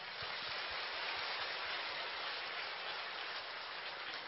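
A crowd applauds steadily, a dense, even wash of clapping that holds at a constant loudness for about four seconds, with no voices over it.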